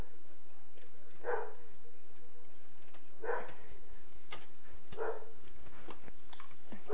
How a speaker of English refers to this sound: You hear doggy barking? Ruff, ruff.